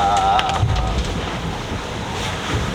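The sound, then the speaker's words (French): A sailboat steered by its autopilot slams into an ocean wave with a loud splashing rush near the start, heeling over and stopping, then steady roaring water and gusting wind noise continue, with no voices. “Et le bateau il s'est couché et le pilote a tiré la barre et il a réussi à redresser le bateau tout seul. On s'est planté dans la vague, le bateau s'est arrêté.”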